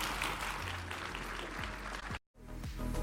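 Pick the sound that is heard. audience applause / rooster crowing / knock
audience applause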